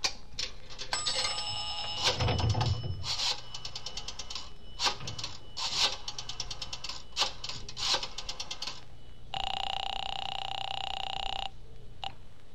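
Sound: telephone number being dialed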